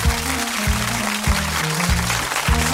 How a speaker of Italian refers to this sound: Applausi.